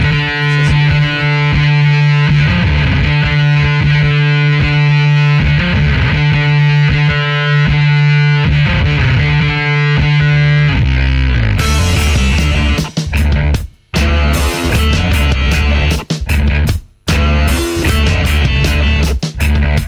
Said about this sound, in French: Et puis tout de suite un peu de musique avant de passer au prochain sujet.